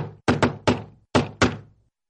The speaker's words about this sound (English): One day, there was a loud knock on the door.